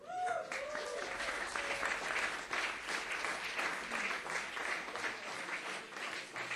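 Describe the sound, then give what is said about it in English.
An audience applauds steadily for several seconds as a band introduces its new Austrian drummer, a dense, crackling wash of many hands clapping at once, fairly loud and even throughout with a brief voice at the very start. “You haven't heard him yet, so don't clap too loud.”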